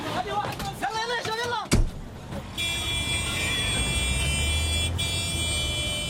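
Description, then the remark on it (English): Men's voices talk briefly before a single sharp vehicle door slam as White Helmets rescue workers get into a truck to drive to the scene of an explosion, then the truck engine starts up and runs with a steady, droning hum. “The men get into a truck.”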